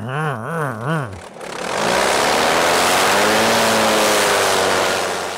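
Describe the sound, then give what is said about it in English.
The piston engine of Miss Bardol, a sleek metallic green 1960s champion hydroplane racing boat with the engine mounted in front of the driver's seat, roars at almost 200 mph on the straightaway, first surging up and down in quick revs, then building into a loud, sustained full-throttle drone with a rushing, wind-like edge. “when Miss Bardol hit the straightaway at almost 200 miles an hour, her engine roared.”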